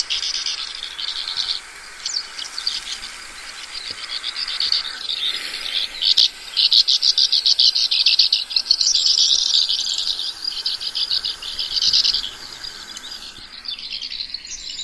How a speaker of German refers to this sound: Ja, es ist dieses typische Schwalbengeschwätz, was man auch von anderen Arten kennt.